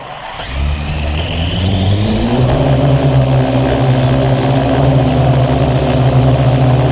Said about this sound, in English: Here's a Parrot AR drone about a foot long. You hear it starting up and taking off.